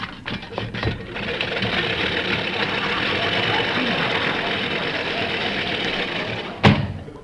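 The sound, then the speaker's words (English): A lawnmower engine runs with a steady, buzzing mid-pitched drone for several seconds, ending in a brief sharp burst of noise before cutting off. “I just want to get the lawnmower.”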